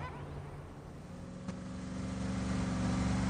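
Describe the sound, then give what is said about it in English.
A red car with black stripes speeds along a dirt seafront in Baja, Mexico, kicking up dust. Its engine hums steadily, then revs and builds in volume as it accelerates, the droning tone swelling toward the end, with a brief click partway through. “A red car with black stripes speeds along the seafront, kicking up dust.”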